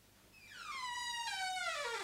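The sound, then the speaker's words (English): Creaking door hinges let out a long, drawn-out squeal that slides steadily downward in pitch, swelling louder and rougher as it goes, with no voices over it. “I really must oil the hinges at this door.”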